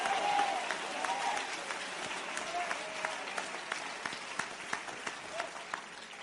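An audience claps their hands steadily for several seconds in thanks, dense clapping that gradually thins out into scattered, sharper individual claps toward the end, with reverberation.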